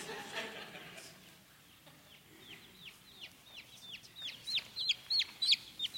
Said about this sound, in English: Some of you have been wondering what all that chirping is.